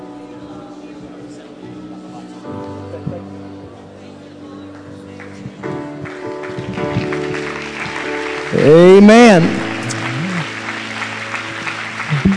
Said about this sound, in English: Go ahead and clap your hands, everybody. If you haven't warmed them up yet, warm them up and get them prepared for response to the Word of the Lord.